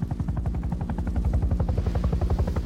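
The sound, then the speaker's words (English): A helicopter with Connor at the controls hovers with its skids a few feet above the surface of a river running through a wood, its rotor blades beating a rapid, steady chop over a deep engine drone that stays loud and constant throughout. “The chopper, with Connor at the controls, hovers above the surface.”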